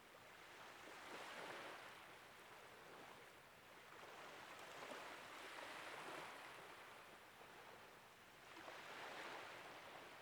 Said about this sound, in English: You can hear the distant calls of seabirds and the rhythmic crashing of waves against the shore.